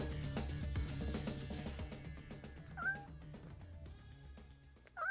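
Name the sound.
cat meowing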